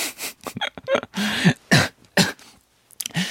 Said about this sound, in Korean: 나쁜 말 하니까 기침 나오네요.